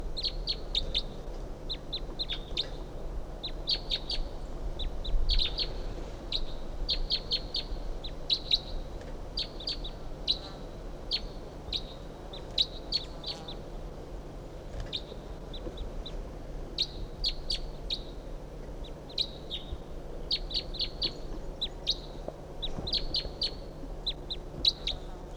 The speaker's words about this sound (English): So we're recording 7:51 a.m. This is bird 358, and there's a wild bird coming in. 358. Type 2 wild bird. 358 there. Yep. Recording the wild bird.